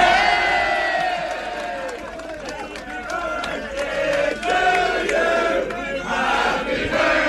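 A large crowd at Easky cheers and applauds loudly and steadily as players are introduced on a stage, with scattered sharp claps, whoops and raised voices blending into a continuous roar for several seconds.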